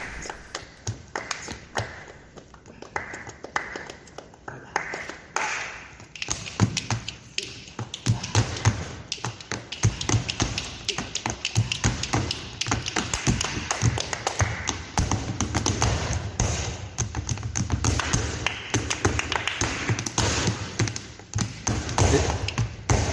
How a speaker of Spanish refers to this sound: Esto que estamos escuchando es una soleá, la interpretan la Farruca, la madre de Farruquito, su hijo …, de 9 años, y Farruquito. Con este sonido, mañana el Teatro Real de Madrid va a levantar su telón.